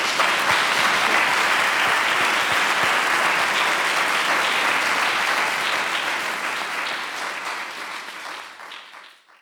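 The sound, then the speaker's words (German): An audience of students and teachers in a large concert hall claps steadily at the end of a live interview, in a dense, even wash of many hands for several seconds, then the applause thins and fades out near the end. No one speaks over it. “Ja, dann ein Applaus.”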